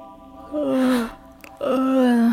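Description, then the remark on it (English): An unconscious woman gasps for breath twice, each a strained, breathy, half-moaning intake lasting about half a second, fairly loud with a brief pause between them. “I think she's breathing.”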